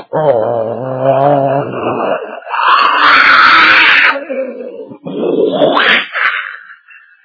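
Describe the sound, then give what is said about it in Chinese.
A voice imitates the loud roar of airplanes in the sky outside: a wavering, growling hum that swells into a harsh, rushing blast, then surges again before trailing off. “那个警务官刚把电话抄起来，还没等说话，此刻就听见室外的天空传来飞机的轰鸣声，这声音好似就雷压顶，是惊天动地。”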